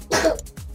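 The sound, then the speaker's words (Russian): A single harsh cough from a man who has fallen ill bursts out, raspy and throaty, then trails into a softer, low voiced grunt a moment later. “Ладно, пока на кашле, перейду на рекламную паузу.”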